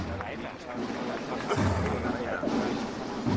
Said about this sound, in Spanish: Justo en mitad de la plaza. Se vuelve a parar el paso del Señor de la Sentencia. Con la ovación que escuchan de la gente acolpada aquí esperando este momento.